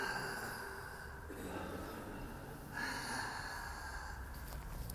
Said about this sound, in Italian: I 108 respiri della gioia, che invece sono con la bocca.